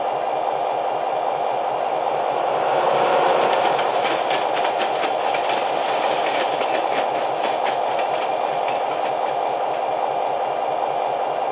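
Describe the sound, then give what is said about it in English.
A passenger train rushes past a freight train waiting on a siding at milepost 40, a steady broad roar with rapid clacking of wheels over rail joints, swelling slightly early and staying loud throughout. “We've got a passenger train. I have to let him in front of you, over.”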